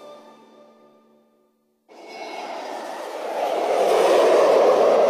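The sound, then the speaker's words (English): A Hawaiian Airlines jet airliner bound for Portland and San Diego passes overhead, its broad rushing roar starting abruptly after a short tonal sound and a brief silence, then swelling steadily louder with no one speaking. “That's the Hawaiian Airlines jet to Portland, San Diego.”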